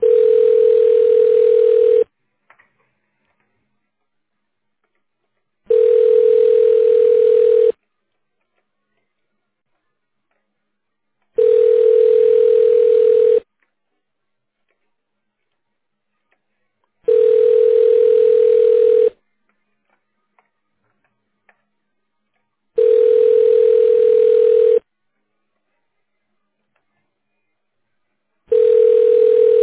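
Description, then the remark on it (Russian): A telephone ringback tone, heard while on hold after calling the company Biosfera, repeats six times, each steady, mid-pitched buzz lasting about two seconds and separated by roughly four seconds of silence. The rhythm stays even throughout, with no voices. “Пожалуйста, оставайтесь на линии и дождитесь ответа.”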